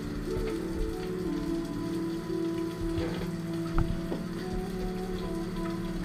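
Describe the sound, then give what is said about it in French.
Steady rain spattering onto stone, heard from under a covered shelter, a dense continuous patter with occasional heavier drips, even in loudness, with no voices. “Vous entendez bien sûr toujours l'eau s'écraser contre la pierre.”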